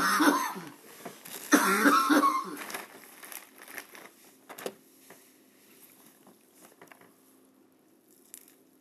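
person coughing

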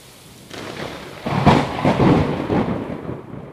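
thunderstorm with rolling thunder

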